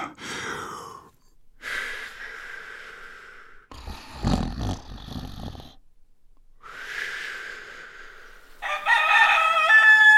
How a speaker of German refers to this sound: Hey! Seit wann krähen Hähne mitten in der Nacht? Es ist ja schon morgen.